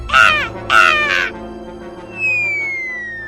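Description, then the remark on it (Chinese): A crow searching for food in a garbage heap gives two loud, harsh caws in quick succession, followed by a thin high whistling tone that slowly slides downward. No one speaks. “在垃圾堆找食物的乌鸦看了马铃薯姑娘一眼”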